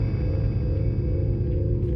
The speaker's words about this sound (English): Do you hear it? The curious humming sound that seems to come from inside the object. I'll move the microphone nearer. Here. Now, we're not more than 25 feet away. Can you hear it now?